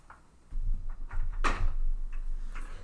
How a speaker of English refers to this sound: Oh, they're going to hear the fucking chair switching. I wonder if they could see the other one just chilling over there.